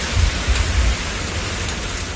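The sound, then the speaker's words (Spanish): Heavy afternoon rain pours in a steady, dense hiss during thunderstorms in parts of Castilla y León, Spain, including Valladolid, with a low rumble of thunder swelling in the first second before fading under the downpour. No voices. “Lluvia intensa la que ha caído esta tarde en algunos puntos de la comunidad, entre ellos Valladolid.”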